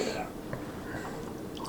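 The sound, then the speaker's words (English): Water pours steadily into a glass for a drink, a continuous splashing gurgle with a faintly rising tone, lasting under two seconds with no one talking. “I got to pour myself a drink of water.”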